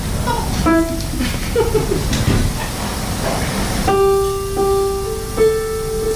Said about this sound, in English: Okay, we'll do the bubbles now. Wow. The sound of bubbles.